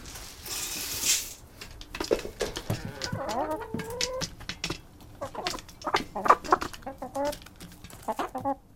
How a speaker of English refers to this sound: There's nothing quite like feeding a flock of hungry hens on a frigid winter morning. Opening the coop door, it's a tumultuous affair full of cooing, squawking, and pecking.